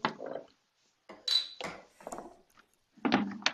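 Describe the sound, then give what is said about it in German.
A bottle of beer fermented with a wine yeast being opened: a few short glassy clinks and metallic rattles come in separate bursts with brief pauses between them, one with a bright ringing tone, and no voices. “Dann will ich dann mal sagen, wenn du ihn jetzt schon angesprochen hast, dann machen wir es ja auch gleich mal auf die Flasche, Ja.”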